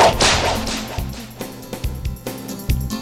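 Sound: whip crack sound effect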